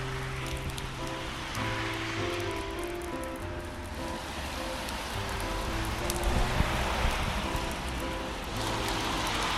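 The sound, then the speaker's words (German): Heavy, slanting rain pours down on a street in a steady, dense hiss that fills the whole stretch without letting up, with a low droning hum running faintly underneath. “Heftiger, diagonaler Regen.”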